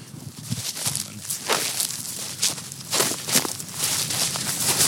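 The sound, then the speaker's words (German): Dry grasses crunch and rustle underfoot as someone walks steadily along the Donauinsel (Danube Island), with regular brushing swishes and a faint background hiss; no one speaks. “Man hört es, dass eben das Rascheln der trockenen Gräser”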